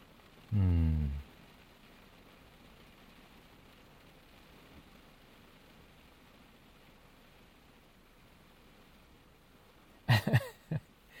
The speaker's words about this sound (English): I thought it wasn't supposed to rain.